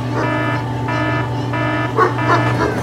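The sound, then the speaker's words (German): A dog on a leash in the old centre of Berlin barks a few times in short bursts near the end, over a steady, loud droning hum that runs throughout. “Also können Sie noch mal ein bisschen wegnehmen, den Hund?”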